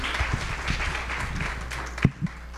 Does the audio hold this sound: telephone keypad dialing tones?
no